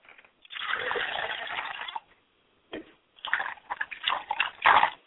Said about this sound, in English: I am from the continent of Senegal, so in putting the water here, it's very, very crucial that I don't come before my ancestors with a stale face. I wash my hands and my elbows.